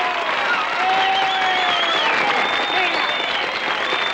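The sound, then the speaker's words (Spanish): Loud, sustained applause from the girls in a venue, applauding feverishly, dense and continuous for several seconds, with high excited shrieks and cheers rising above the clapping. “Las chicas del local aplauden enfebrecidas.”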